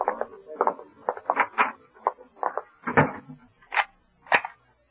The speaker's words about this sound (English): Have to lock the door